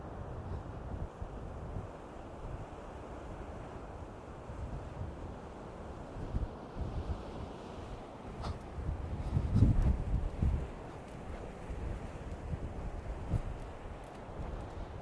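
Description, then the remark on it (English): Steady wind buffets a Zoom recorder's internal microphone on the coast by a Coast Guard lookout post, facing west over the ocean towards Ireland, with a constant low roar of waves beneath and one louder surge swelling briefly about two-thirds of the way through. No voices. “So I'm hoping that the microphone's picking up the wave noise.”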